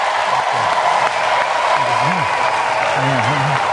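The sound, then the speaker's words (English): A large audience claps steadily and loudly throughout, a dense wash of applause welcoming a speaker, with a voice faintly audible underneath. “All right, give the Lord a big hand clap.”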